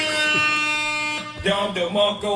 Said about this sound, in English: you get a buzzer for your comments.